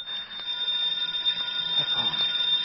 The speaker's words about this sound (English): The phone. Hello.